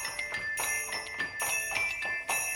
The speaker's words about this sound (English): give me some jingle bells.